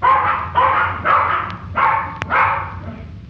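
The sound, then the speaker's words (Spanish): Three tiny dogs bark in a quick run of about five yappy barks, fairly loud, with only faint background noise between them. “Los tres perros eran sus compañeros.”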